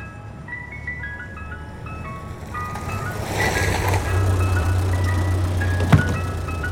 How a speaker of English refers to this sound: This is an ice cream truck. So it is.